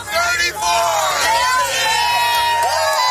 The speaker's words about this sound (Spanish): Unos llorando y otros vitoreando una vez se ha conocido el veredicto, lo que es un resumen bastante bueno de lo que se ha vivido estos días a las puertas de ese juzgado en Nueva York.